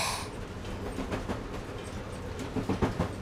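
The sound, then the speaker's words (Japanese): A train rumbles steadily along the rails with a continuous low roar, a brief hiss at the start, and a cluster of sharp clacks from the wheels near the end, as the driver quickly gets it to grip the rails again. “けど慌てずすぐに線路つかみ直させたのはさすが。”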